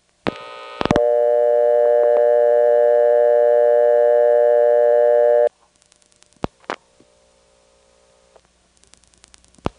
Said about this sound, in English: In other words, during the space between the rings, there are other phones ringing, and not all the ring phases sound alike. This one, for example, seems to have a few interruptions in it for some reason.